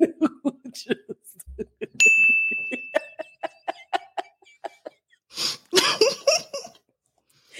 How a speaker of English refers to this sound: So this little bell that y'all keep hearing, this is our new petty alert, okay? And it's going to be showing up across various places.